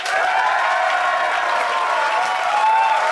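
A crowd applauds steadily to vote for one side's arguments, a dense, even wash of many hands clapping at once, sustained at a constant loud level with no voices standing out.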